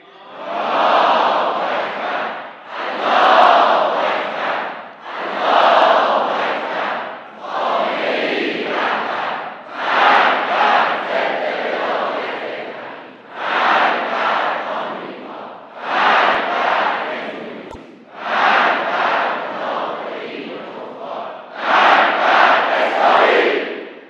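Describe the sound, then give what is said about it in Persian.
A massive crowd of the nation chants in unison at a rally on 13 Aban, loud rhythmic bursts of roaring voices repeating about every two seconds, each phrase separated by brief dips, with no single speaker audible. “صدای رعدآسای ملت در 13 آبان امسال بلند شد.”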